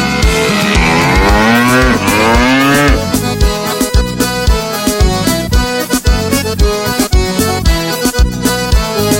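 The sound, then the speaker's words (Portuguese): A long, drawn-out cow moo with a wavering pitch fills the first few seconds, then gives way to loud, rhythmic music with a steady beat. “Hoje estou arrependido, sofrendo, caído e berrando igual boi.”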